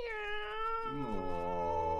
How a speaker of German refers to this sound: Dort auf dem Baumstumpf sitzt eine Katze. Sie macht dein Gesicht wie 3 Tage Regenwetter.